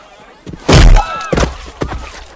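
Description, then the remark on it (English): A heavy, booming thud lands first, then two sharper body blows follow in quick succession as one man punches another out and then kicks him one more time, with a brief grunting voice mixed in between. “He punches him out and then kicks him one more time.”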